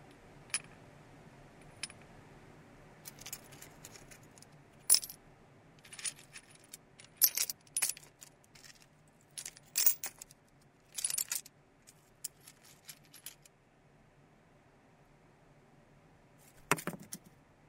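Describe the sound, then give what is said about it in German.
Small metallic clinks and jingles of old coins lying in the remaining chimney shaft of a hospital kitchen, scattered irregularly over several seconds, some in quick clusters, with a final brighter rattle near the end, over a low steady hum. “Im noch vorhandenen Schornsteinschacht der Krankenhausküche liegen alte Münzen.”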